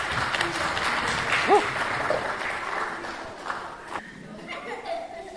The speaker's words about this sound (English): There we go, that's better. Can you help give them a round of applause, everybody?